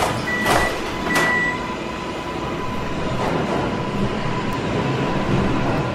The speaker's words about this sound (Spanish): Cruzó la calle esquivando autos, atravesó el mercado y bajó las escaleras de la estación San Cosme, metió su boletito, escuchó la llegada del metro y brincó al vagón antes de que las puertas se sellaran a su espalda.